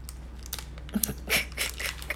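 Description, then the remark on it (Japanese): Crunchy chewing, a string of short crackly bites and crunches at an irregular pace, fairly quiet, with no talking. “ボリボリだ った。”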